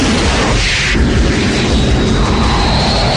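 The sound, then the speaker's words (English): A loud, continuous roar of a $25 million airplane's engine in flight, dense and steady throughout with a slight whooshing shift near the start; no voices. “Can't you see we're trying to fly a $25 million airplane?”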